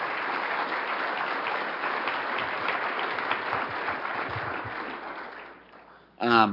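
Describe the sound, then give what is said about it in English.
At a Renew Wisconsin event, an audience gives the panelists and speakers a steady, dense round of applause that holds for about five seconds, then thins and fades out, followed by a voice beginning to speak. “I'd like to do one more round of applause, please, for our panelists and speakers today.”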